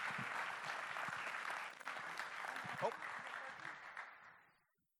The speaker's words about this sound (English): You should give her a big round of applause,